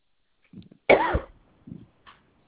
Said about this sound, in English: Yeah, I'm here. I'm just coughing.